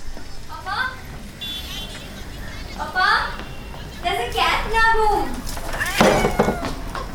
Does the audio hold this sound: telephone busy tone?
no